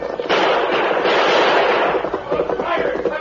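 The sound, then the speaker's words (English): A loud flurry of gunfire from the Lone Ranger radio drama, as El Diablo exchanges shots with the oncoming masked man and Indian: a dense, crackling barrage of overlapping shots that thins after a couple of seconds into scattered, irregular reports. “Blackie and Tex turned and urged their horses into a gallop up the opposite slope, while El Diablo held back to exchange more shots with the oncoming masked man and Indian.”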